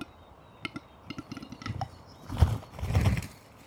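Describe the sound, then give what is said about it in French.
A bird gives a string of hollow, percussive pops, like bottles being uncorked, in an irregular rhythm, with two louder, fuller bursts near the end. No one speaks. “Il y a des sons un peu percussifs qui font un peu penser à des sons de bouteilles qu'on débouche.”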